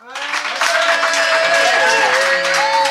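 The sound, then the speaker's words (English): The Phoenix Live audience bursts into loud, steady applause to make the call on a dispute, dense clapping mixed with high whoops and cheering voices that carry on without a break for the full three seconds. “But anyway, it doesn't matter because I'm going to ask my more than capable Phoenix Live audience to make the call.”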